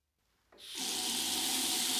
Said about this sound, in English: Sue, you must turn off the water when you clean your teeth.